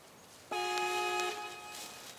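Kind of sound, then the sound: vehicle, steam engine whistle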